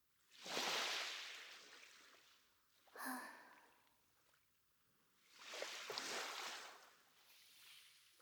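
Gentle sea water laps and washes in a few soft surges, each swelling then fizzing away, with a brief splash in between; fairly quiet, with no talking.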